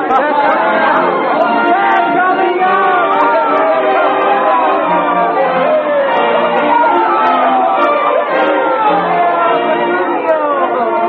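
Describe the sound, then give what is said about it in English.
A dense crowd chatters steadily throughout outside a church as the bridegroom and bride stop on the church steps, many overlapping voices blending into a loud, continuous murmur with no single speaker standing out, as if gathered outdoors. “Steps of the church, Petruchio stops with his bride on his arm and bows to the crowd.”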